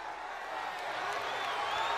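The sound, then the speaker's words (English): A large pro-WCW wrestling crowd at the Omni arena roars steadily, upset at a wrestler's allegiance with the NWO; a dense wash of many voices shouting and murmuring at once, loud and continuous throughout with no single voice standing out. “this decidedly pro WCW crowd at the Omni is obviously upset at Sting's allegiance with the NWO”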